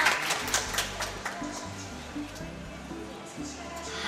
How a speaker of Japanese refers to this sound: センターコートの皆さん、よかったら未来のオリンピック選手に激励拍手もう一度お願いします。